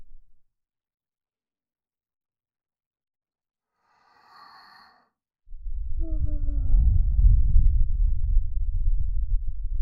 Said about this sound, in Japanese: 奥の方まで吐息当たってますか？